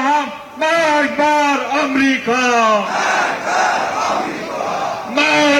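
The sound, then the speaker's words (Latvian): A large crowd chants in unison outdoors at a rally in the streets of Tehran, Iran, with flags and placards supporting President Rohani: loud rhythmic shouted phrases repeating in bursts, then dissolving into a broad, roaring mass of voices before the chant rises again. “Video ierakstos, ko publiskojusi radioorganizācija BBC, redzams liels cilvēku pūlis Teherānā ar karogiem un plakātiem, kuros pausts atbalsts prezidentam Rohani.”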